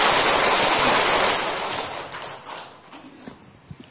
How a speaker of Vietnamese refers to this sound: Tôi cho anh chồng pháo tay nữa.